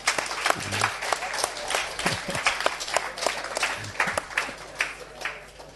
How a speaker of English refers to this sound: Will you give yourselves a clap and say we did a very good job today?